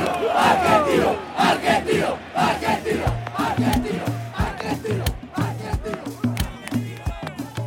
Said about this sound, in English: One by one, the players pop out of his chest cavity onto the field, and now the crowd really goes nuts.